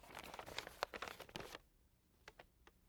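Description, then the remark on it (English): An old piece of paper found in the corner of an empty treasure box is unfolded: dry paper crinkles and rustles in a dense flurry of crackles for about a second and a half, then a few sparse, softer crinkles follow as the sheet settles open. “There's something in the corner. It's just an old piece of paper. Let's see what it says.”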